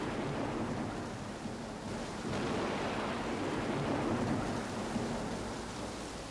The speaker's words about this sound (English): Where were we when the coming of the rain made us turn from conversation to the window?